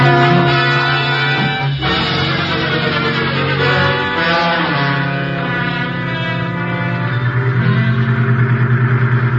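Vehicle engines, a truck leading and a taxi cab following it, rumble and rev loudly and steadily as they drive along, with no voices over the continuous motor drone.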